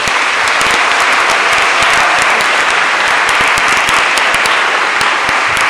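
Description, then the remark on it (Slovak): Loud, sustained applause from a large audience, dense overlapping claps going on steadily for several seconds with no talking. “Takže potlesk.”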